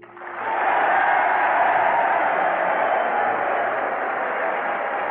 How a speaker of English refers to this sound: The applause of soldiers on all fighting fronts joins with that of Camp Anza tonight for the cheer that you have brought them.